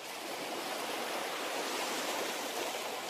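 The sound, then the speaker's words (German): A steady, unbroken wash of ocean surf on a beach, hissing and full, holding an even loudness throughout with no distinct wave swells and no voices. “Du stehst am Strand. Vor dir das unendlich erscheinende Meer.”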